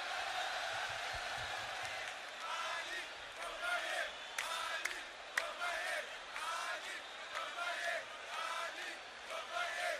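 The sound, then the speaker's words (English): A large crowd at a 1974 African music concert cheers and shouts continuously, a dense roar of many voices with whoops and yells rising and falling throughout, loud and sustained for the whole stretch. “Wow, do you hear that crowd?”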